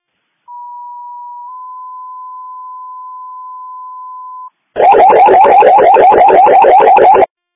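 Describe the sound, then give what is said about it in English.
Fire department paging alert tones paging the Harrington Fire Department to 112 South E Street for an electrical emergency: a steady electronic tone that steps slightly in pitch and holds for several seconds, then a loud, rapidly pulsing warble alert, with no talking. “Can you page Harrington Fire to 112 South E Echo Street for an electrical emergency?”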